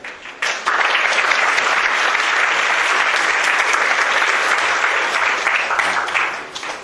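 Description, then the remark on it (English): A lecture audience claps steadily, a dense, loud wash of hand claps that swells quickly after a brief quieter start and holds for several seconds without any talking. “I guess the question is whether you'll still be clapping at the end of the lecture, really.”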